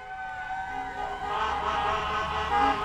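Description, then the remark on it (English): Horns of fire engines, police cars and a school bus blare together in a sustained, layered chorus, with a siren-like wail mixed in, growing louder over a few seconds as a celebratory noise parade for the Petersburg High School swim team winds through the streets of Petersburg. “Camp SK caught up with the team after they returned home and enjoyed a celebratory noise parade”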